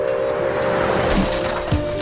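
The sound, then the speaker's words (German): A car engine roars loudly and continuously with a steady droning hum as the driver floors the accelerator and speeds away, with a brief shift in pitch near the end and no voices. “Er drückt das Gaspedal durch und brettert davon.”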